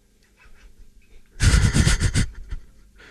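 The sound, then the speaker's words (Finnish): In a radio studio, a person imitating bird calls imitates a crow with a loud, harsh burst of rapid, raspy caws, about a second long, preceded by faint breathy noises and followed by quiet. “Varis.”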